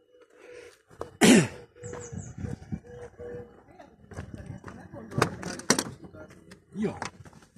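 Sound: people getting into car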